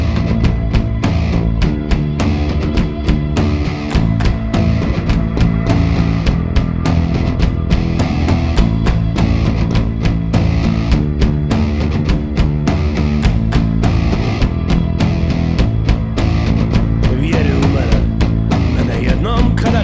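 A band plays a loud, full rock song with a steady pounding drumbeat and dense guitars, running continuously at high volume without any talking over it.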